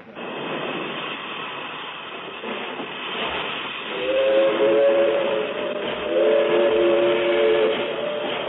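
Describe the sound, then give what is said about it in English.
A steam train hisses steadily at the Pekin railroad station, then a loud, wavering steam whistle blows twice in long, sustained blasts over the background rumble and hiss. “this time at the Pekin Railroad Station”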